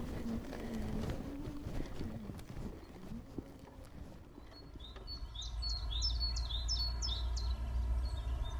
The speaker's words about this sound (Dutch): Dat is een koolmees. Die toet, die toet, die toet, die toet. Deze. We hoorden net die koolmees zo hard.